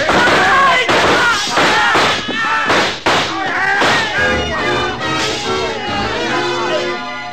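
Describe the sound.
A rapid volley of loud, sharp gunshots fires in a saloon for about five seconds, the bangs clustered and irregular, with raised voices sounding throughout and continuing after the shooting tapers off.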